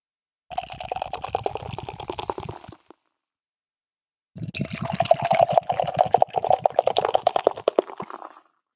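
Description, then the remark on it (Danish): Beer from a just-opened can is poured into a glass in two bursts, a short pause between them, with a dense fizzing, crackling foam texture throughout, fairly loud, no voices. “Jeg sad bare så forventningsfuldt og ventede på den der knasende lyd af skum, der sådan efter det er boblet ned i glasset.”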